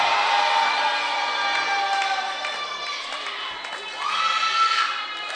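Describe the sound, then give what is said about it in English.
An audience at a church service, answering the preacher's call to shout, shouting and cheering together in a sustained, loud roar of mixed voices, swelling again toward the end with high whoops rising above the din. “Oh, I always like that shout here.”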